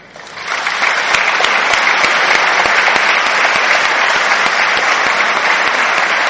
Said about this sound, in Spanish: Para todos ellos y todas ellas, pido un fuerte aplauso de esta Asamblea Legislativa que hoy se reúne bajo el signo de la celebración de un logro colectivo que es de todo el pueblo argentino.